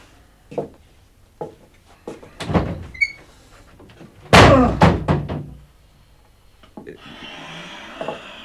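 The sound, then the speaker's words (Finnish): A door, pulled hard, bangs shut with a loud, sharp slam after a few lighter knocks and thumps, followed by rattling and fainter wooden clatter as it settles. No one speaks. “Mutta jysähtää se ehjä ovi, kun sitä vetää kovasti.”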